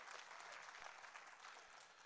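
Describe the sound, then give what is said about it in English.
A church audience claps loudly and continuously for the Lord, a dense wash of many hands at steady volume with no speech over it. “Can you clap real loud today for the Lord?”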